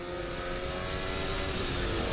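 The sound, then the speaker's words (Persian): Race car engines drone steadily and loudly, a dense layered roar of several cars rolling out together onto the track at the green light, with rising revs, no voices, sustained for the whole stretch. “چراغ سبز و ماشینا میان بیرون برای ورود به پیست.”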